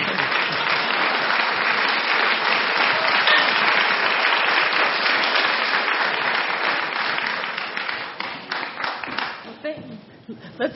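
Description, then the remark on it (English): A large audience claps steadily in a dense, sustained wash of applause for Marian Wright Edelman after her speech, holding for several seconds, then thinning out into scattered claps before fading near the end. “Let's have a rousing applause and thank you for Marion Wright Edelman.”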